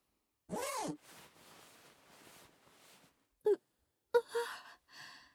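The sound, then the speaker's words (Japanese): A breathy sigh, then a trouser zipper being pulled down in a few soft, rasping strokes, followed by brief clicks and fabric rustling, all fairly quiet. “早くズボンのチャック下ろして”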